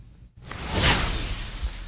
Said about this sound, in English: Can we get a swoosh?